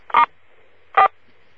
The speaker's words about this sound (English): You know what I need you to do is I need you to hit star 4. All of those who are going to be on the call, hit star 4 and it'll beef up the sound on your phone.